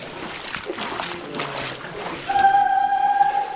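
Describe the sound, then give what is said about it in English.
Water flows steadily in a creek with a churning, splashy rush that never lets up, and a thin high whistling tone rises over it near the end. The creek is pretty deep. “Because if you go in the creek there, it is pretty deep.”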